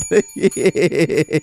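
A bell is rung rapidly in quick succession after a pun, about seven bright dings in a row with a metallic bicycle-bell tone, loud and with no one talking over it.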